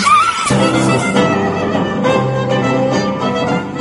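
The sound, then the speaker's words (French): A person gives a brief, wavering neigh, imitating a horse's whinny for about half a second, then a loud, dense backdrop of music takes over for the rest. “Faites-moi le cheval. Ah non, pas le cheval.”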